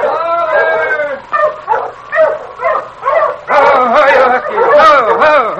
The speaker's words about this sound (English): As Jenkins stood watching the great huskies circling, sniffing, and whining, he heard another dog team approaching from up trail.